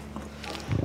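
A cow brings her cud back up from her rumen into her mouth with a low, wet gurgling grunt, fairly loud, followed by a brief rustle of chewing; this also releases methane built up in her rumen.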